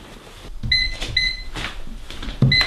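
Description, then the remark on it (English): A microwave oven being operated, with three short, bright electronic beeps mixed with soft clunks and button or door thumps, fairly loud. “I just installed Linux on this microwave.”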